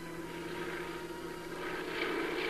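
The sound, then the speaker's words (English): A steady propeller-plane drone hums overhead as Forestry Department planes fly over 26,000 acres of devastated mountains and hillsides, scattering 500,000 pounds of ryegrass seed; a low engine tone with a faint whine, growing slightly louder toward the end. No voices. “Day after day, Forestry Department planes flew over the 26,000 acres of devastated mountains and hillsides, scattering a 500,000 pounds of ryegrass seed.”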